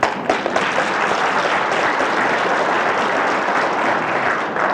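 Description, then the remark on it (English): A crowd applauds a man for his work in the city, a dense wash of many hands clapping steadily at an even, fairly loud level for several seconds with no voices on top. “Let's give Brother Linden a round of applause for his wonderful work in this city.”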